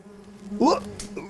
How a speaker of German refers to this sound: Das waren jetzt Bienen. Die haben sich gerade die Blume genau angeschaut. Eine Tellerhortensie, die hier auch wirklich in einem schönen Farbton blüht.